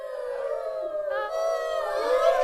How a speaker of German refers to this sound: Im Wald, der neben der Burg lag, heulten die Wölfe.